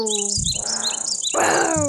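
A grasshopper chirps in a steady, shrill, high-pitched trill, with a string of short rising chirps repeating over it at a quick, even pace. No one speaks.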